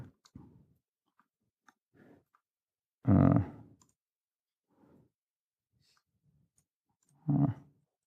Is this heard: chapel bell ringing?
no